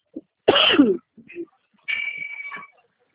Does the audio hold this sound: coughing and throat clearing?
yes